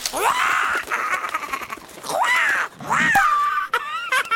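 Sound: bird squawking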